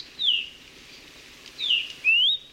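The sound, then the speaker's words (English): Three clear, high whistled calls of a Maui parrotbill (kiwikiu), the first two slurring downward and the last sweeping upward, spaced unevenly over a quiet hiss with no voices. “Like many of Maui's native birds, kiwiquiu have been devastated by avian malaria”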